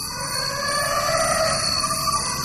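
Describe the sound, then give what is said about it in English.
A forest elephant trumpets in the middle of a Borneo rainforest in Southeast Asia, a loud, brassy blare, one sustained call rich in overtones that holds steady for the whole stretch, with no voices present. “It's a forest elephant trumpeting in the middle of a Borneo forest, which doesn't get more romantic than that, really.”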